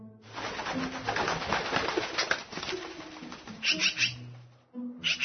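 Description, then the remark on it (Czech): A wild magpie living in a city calls in a dense run of harsh, rapid chattering, with a few low tonal notes and what may be flapping wings mixed in, ending in brief separate bursts after a short pause. “Piru, Piru, vidi, došla nam je svraka.”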